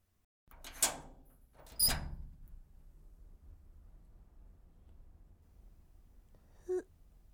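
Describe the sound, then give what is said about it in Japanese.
A locked front door is unlocked with a key and opened: two sharp metallic clacks of the lock and latch, a quiet pause, then a brief creak or squeak of the door moving. No one speaks. “嘘、鍵かけてあったよ、ドア。なのにそれを開けちゃうってことは、鍵を持っているってことって。”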